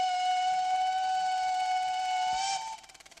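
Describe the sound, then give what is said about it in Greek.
An old historic steam train whistle blows one long, loud, steady tone with rich harmonics for about two and a half seconds, then cuts off into faint rhythmic chuffing as the train creaks over its worn old rails. “Σχολιάζει ο Μαγιακόφσκι, καθώς το ιστορικό τρένο μας αποχαιρετά σφυρίζοντας και τρίζοντας τις παλιοκαιρισμένες ράγες του.”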